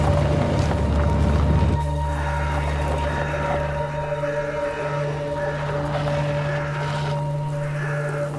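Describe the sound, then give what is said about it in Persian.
A steady, droning car engine hum with a low mechanical tone. The hum shifts abruptly early on, then carries on evenly as the car starts moving again. “دوباره حرکت میکنه.”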